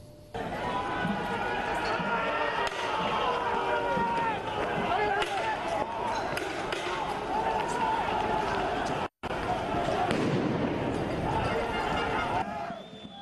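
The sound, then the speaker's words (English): A violent anti-government street protest clash with police in Paris, France, police using water cannon, tear gas and rubber bullets: a dense crowd shouting and yelling continuously, with hurried footsteps and scattered sharp knocks and thuds, loud, broken by one brief cut. “Now, violent anti-government protests have erupted once again in France, now for a 9th consecutive weekend.”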